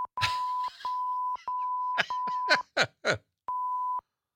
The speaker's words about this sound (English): All right, we added all those beeps just for effect. But that's Chris Rock.